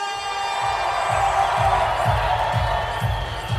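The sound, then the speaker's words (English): A large theater audience at the Wiltern Theatre in Los Angeles roars with cheers, whoops and applause for Luke Skywalker at The Empire Strips Back, a Star Wars burlesque show, in a dense, continuous wall of crowd noise, with a steady low thumping beat pulsing underneath. “So ladies and gentlemen, give everything you've got in the way of applause for Luke Skywalker!”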